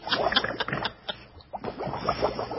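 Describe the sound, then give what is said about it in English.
A bubbling, boiling liquid sound effect with a steady stream of irregular gurgles and pops, fairly loud and uninterrupted, with no voices over it. “Are we boiling something?”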